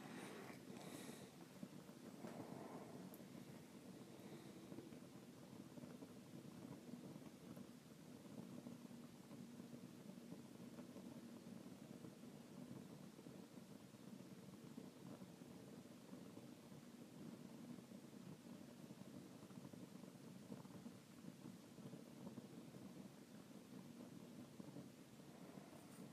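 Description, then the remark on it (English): A steady, enveloping wash of stormy rain and wind roars evenly throughout, dense and unbroken with no voices, with a few brief louder gusts near the start. “And when I just drop them into the storm, they're like a couple drops of water in a huge storm.”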